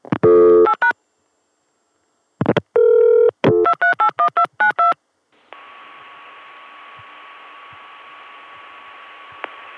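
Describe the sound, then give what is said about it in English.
Touch-tone telephone dialing: a few quick DTMF beeps, a pause, then a rapid run of about a dozen tones, followed by a steady hissy line tone. No one speaks. “By calling that number 3 times in a row and hanging up right after it answers, I was able to get a busy signal on the 4th call.”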